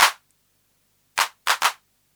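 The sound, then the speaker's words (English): Four sharp synthesized hand claps, played with the hand clap's noise level turned right down and its reverb off, with a noisy, bright crack: one alone, a pause, then a quick group of three, the last two nearly back to back. No voices. “The hand clap depends on the noise level, so let's turn the noise level right down.”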